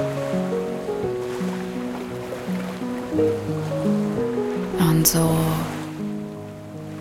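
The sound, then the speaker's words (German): Steady ocean surf washes continuously onto a wide sandy beach in the background, blended with soft sustained musical tones, while a calm voice speaks briefly near the end; one brighter surge of spray stands out midway. “Es gibt nur dich und diesen Sandstrand.”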